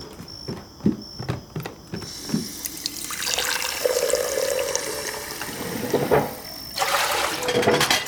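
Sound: water running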